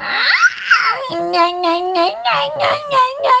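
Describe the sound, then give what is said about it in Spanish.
A person imitates a baby crying in pain: a rising wail followed by a string of pulsing, whimpering sobs on a steady pitch, fairly loud, with no other talking. “Luego, cuando, por ejemplo, era porque le dolía algo, era como más de...”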